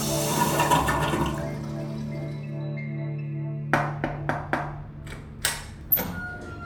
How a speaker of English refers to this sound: Yo! Flush the toilet! He'll just sink to the bottom of the sewer or something!